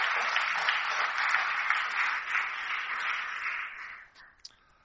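An audience applauds steadily, a dense wash of many hands clapping for about four seconds before it quickly dies away, ending with a few scattered final claps.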